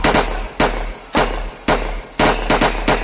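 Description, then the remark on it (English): A rapid volley of sharp gunshots, about eight cracks in uneven bursts, loud with a constant low rumble underneath and no voices. “Gunshot!”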